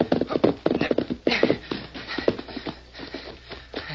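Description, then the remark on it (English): The hooves of a horse named Victor clip-clop as it gallops along a trail, in a quick, steady rhythm of sharp thuds that continue throughout, with no talking over them. “Just as fast as you can gallop.”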